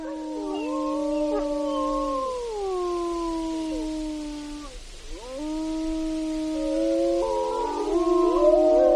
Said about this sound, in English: Well, as we head into this next break here, you're hearing wolves howling in Denali National Park and Preserve.